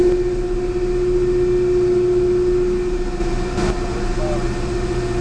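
Large electric propulsion motors, 1,500 horsepower each, run in the motor room aboard the ship Nore with a loud, unbroken drone: a strong low hum layered with faint higher whining tones, holding steady from start to finish.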